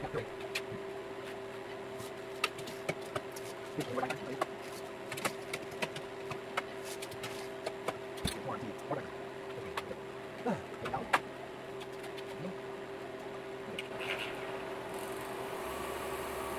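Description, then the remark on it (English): A freeze dryer hums steadily while irregular clicks, taps and clunks from hands handling and operating it come and go. Nobody speaks. “I'll speed this section up because it's just me playing around with the freeze dryer, and you don't really want to go through all that.”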